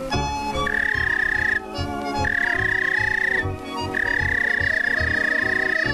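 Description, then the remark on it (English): A person whistles to call a pet police dog, three long, steady, high-pitched notes, each held for about a second or more with short gaps between, over a busy, rumbling background. “Suppose you own a police dog. Here's the way you'd whistle to him.”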